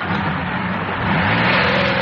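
A car engine revs with a steady, dense roar that swells about halfway through, its pitch climbing slightly toward the end. No one speaks.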